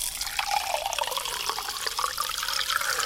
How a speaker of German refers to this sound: Und jetzt muss man das Glas so hoch mit Wasser befüllen, das machen wir jetzt auch, dass das gerade so im Wasser ist.